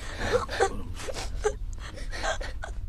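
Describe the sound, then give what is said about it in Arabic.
A boy wails and sobs in repeated broken bursts with sharp gasping breaths between them, loud, over a low steady hum, while he is being given a vaccination. “ولد في سنك وعمرك لا يجدر به أن يبكي، سينتهي الأمر بسرعة.”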